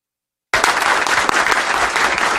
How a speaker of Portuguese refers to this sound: E veja que a deputada Sâmia Bonfim fala, ela é extremamente aplaudida, gente, sabe?